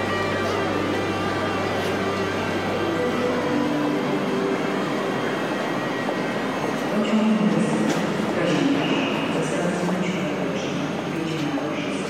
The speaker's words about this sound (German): Krakau Hauptbahnhof, Gleis 2. Es ist Mitte November. Gut ein Dutzend Reisende vertreten sich die Füße. Es ist kalt und feucht.